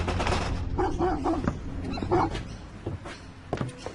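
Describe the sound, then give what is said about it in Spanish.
A dog barks a few times in short, rough bursts over a busy, rumbling background, with a couple of sharper yelps near the end; no one speaks. “Sus tres primeros intentos no resultan, porque hay vecinos vigilando o perros ladrando.”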